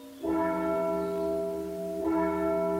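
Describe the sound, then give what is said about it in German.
The church bells of St. Katharina ring out loudly at 7 a.m. with two strong strikes about two seconds apart, each leaving a rich, sustained ringing hum that lingers between them. “Um 7 Uhr morgens wecken mich die Glocken von St. Katharina.”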